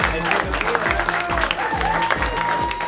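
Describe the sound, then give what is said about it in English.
A crowd claps and cheers loudly and steadily throughout as an audience welcomes the next storyteller, while a thumping beat pulses underneath at a quick, regular tempo. “Let's start applauding right now”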